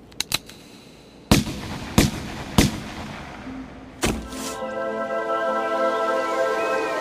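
A few faint pops, then four loud, sharp gunshots at uneven intervals, each with a short echoing tail, followed by a steady humming whine that lingers to the end.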